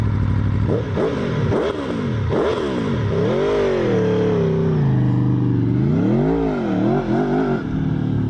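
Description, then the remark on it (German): A motorcycle engine revs hard several times in quick bursts, then accelerates through rising and falling gear changes, loud with no voices. “Motorradfahren ist ein kostbares Stück Freiheit.”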